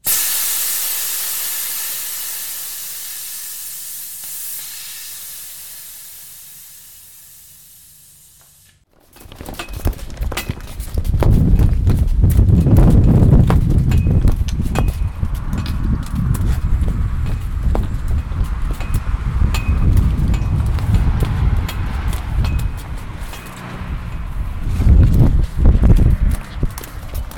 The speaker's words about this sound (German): Ja, ganz schöner Wind, ne? Wir sind aber nicht an der Ostsee, wir sind nicht an der Nordsee, nicht am Mittelmeer. Wir sind in Königsmoos. Ihr wisst, das liegt ungefähr 30 Kilometer vor Ingolstadt. Und wunderschöne Gegend, aber der Wind ist brutal